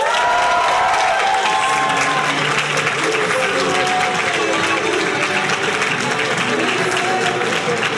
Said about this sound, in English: Unfortunately, Ruby can't be with us tonight, but please give another round of applause for your new women's officer.